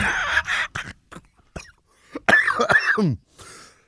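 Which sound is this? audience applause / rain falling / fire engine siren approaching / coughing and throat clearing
coughing and throat clearing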